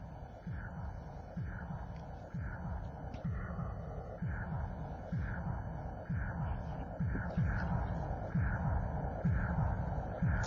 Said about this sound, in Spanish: No, no es un cañón, no es un arma, es el corazón de alguien que está naciendo, que está viniendo a este mundo.